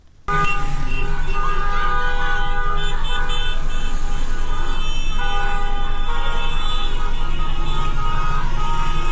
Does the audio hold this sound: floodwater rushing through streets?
no